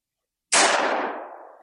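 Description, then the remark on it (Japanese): A single loud gunshot cracks out of silence at the back of a queue where people are fighting, sharp and sudden, then its echo rings and fades away over about a second. No voices are present. “さらに後ろで、とうとう銃声まで。”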